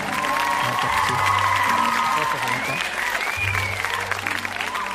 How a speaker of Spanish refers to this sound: Y aplausos también. Que vamos ahí. ¿No? Y eso es. Aplausos, ahí está, aplausos de data. Muy bien. Aplausos.